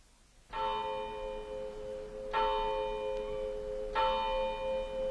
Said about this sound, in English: The clock of the village church was striking 9 as I passed through the lodge gates.